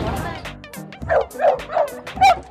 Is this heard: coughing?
no